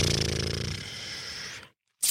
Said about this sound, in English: I'm assuming these are the orcs. You know the sound of a snoring orc. Who doesn't?